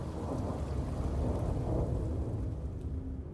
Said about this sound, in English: A little after 4 p.m., they're in the Bavarian Alps, winding up to the Berghof. The skies darken. It starts to rain.